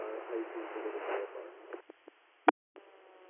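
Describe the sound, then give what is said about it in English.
Narrow, tinny radio transmission with muffled voice-like noise, then a few crackling clicks and one sharp burst of static near the end, trailing into a faint steady hum. “Could you advise whether check back transmission and static at the end?”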